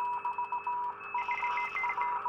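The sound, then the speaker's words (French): Morse code beeps: a quick run of short and longer electronic tones at a steady mid-high pitch, with a second, busier layer of tones joining halfway through. No voices. “C'est toute une combinaison de points et de traits pour faire l'alphabet morse.”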